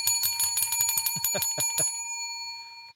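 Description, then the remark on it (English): A bright bell rings rapidly over and over, a quick run of metallic dings for nearly two seconds, fairly loud, then its clear tone hangs and fades away. “Boy, that bell is getting more fun.”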